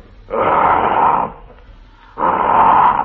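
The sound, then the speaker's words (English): A person imitates a lion's roar twice, two loud, breathy growling bursts of about a second each, separated by a short pause. “And I do a great imitation of a lion.”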